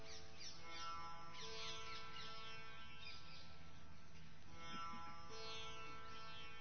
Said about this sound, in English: Voices of birds. Is there only one type of bird, or are there different birds' voices? Try to distinguish.